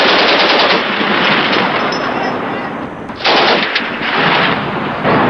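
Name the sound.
gunfire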